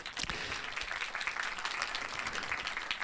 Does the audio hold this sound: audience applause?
yes